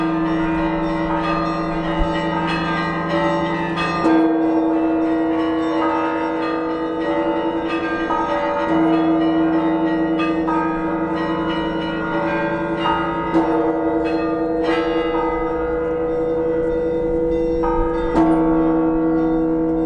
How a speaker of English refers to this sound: We really like the bells of the Red Square churches. I enjoy bells as much as I do organ music.